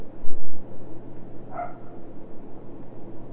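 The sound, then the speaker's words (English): A single short dog bark rises briefly above a steady hum of background noise, with no other barks following. “Those doggies are barking.”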